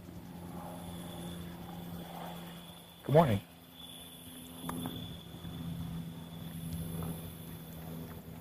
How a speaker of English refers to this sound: Airplane's out this morning.